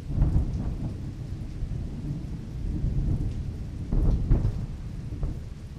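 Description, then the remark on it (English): Deep rolling thunder rumbles continuously over steady rain during a thunderstorm with flashes of lightning at the Memorial Chapel of Blandford Church Cemetery in Petersburg, with a heavier crack-like swell around the middle and another near the end. Loud storm with no voices. “has moved in as I stand in the entrance to the Memorial Chapel at Blandford Church Cemetery, flashes of lightning could easily be mistaken for cannonade still pummeling Petersburg 150 years later, and the thunder, the report of heavy Union artillery.”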